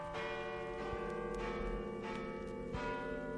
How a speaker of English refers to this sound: Listen, the bells. Midnight. It's Christmas.